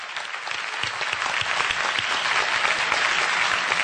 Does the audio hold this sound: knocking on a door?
no